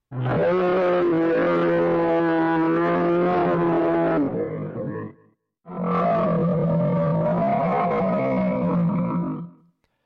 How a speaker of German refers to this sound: Bald umringten es die Wölfe mit ihren blitzenden Augen und mit ihrem unheimlichen Geknurre.